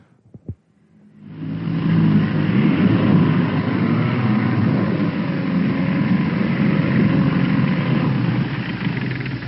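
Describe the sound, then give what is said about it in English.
After a brief knock, a motor-driven propeller with a Timex watch on its blade starts up and churns through water in a tank at 4,500 revolutions per minute, a waterproof test on live TV, with a loud, steady roar and low rumbling hum that holds for several seconds without any talking. “Now just imagine, the Timex watch on that propeller, let's lift her out, has been slashed through the water on that blade to the tune of 4,500 revolutions per minute.”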